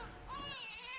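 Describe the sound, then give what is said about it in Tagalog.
An infant cries in a single sustained, high-pitched wail with a rising, strained quality, loud with no other voices. “Teka, iyak ba ng sanggol yun?”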